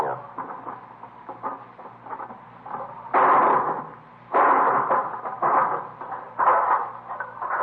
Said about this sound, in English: Let me give you that hammer. Yeah. You gonna break the lock?